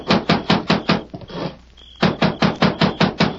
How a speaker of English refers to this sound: Consequently, he was surprised one night to be roused from his sleep by a loud pounding on the cabin door.